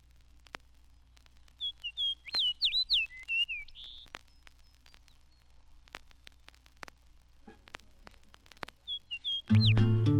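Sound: fox sparrow song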